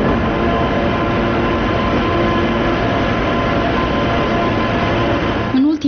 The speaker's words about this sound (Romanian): Trenul Prietenia, care face legătura între Chișinău și București, circulă mai mult pustiu, plimbându-și personalul dintr-o țară în alta. Din cauza numărului mic de călători, cursele nu se mai fac zilnic, ca pe vremuri, ci doar de 3 ori pe săptămână.